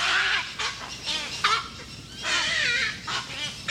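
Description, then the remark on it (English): Cattle egrets call in harsh, raspy croaks, several voices overlapping in a busy, continuous chorus of short squawking bursts with no one talking. “and yet here we are, and we found a way to thrive and live here and make our way here, just like the cattle egret.”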